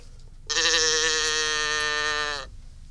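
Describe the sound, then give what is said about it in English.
A toy cow noisemaker lets out one steady, nasal, buzzy moo lasting about two seconds, fairly loud, with a faintly wavering bleat-like quality and no voices. “Here's the cow. We also have a cow.”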